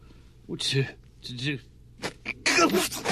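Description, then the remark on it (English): A single loud, sharp sneeze bursts out near the end, after a stretch of voices talking. “Bless you.”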